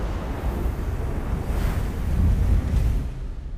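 Roaring winds and heavy surf of Hurricane Dorian, a storm the size of Kansas, blend into a dense, continuous, loud rumble, with surging swells rising and falling over a few seconds. No voices.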